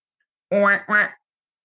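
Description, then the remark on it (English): A person imitates a duck with two quick, nasal quacks in a row, fairly loud, with silence before and after. “And what about the duck?”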